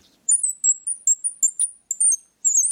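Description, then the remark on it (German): A twisted bird call device, a small piece of wood with a piece of iron inside, gives a rapid run of about ten high, squeaky chirps in short bursts, with a brief pause before a final longer squeak. No one speaks. “Und wenn man daran dreht, ich kann das gerne mal vorführen.”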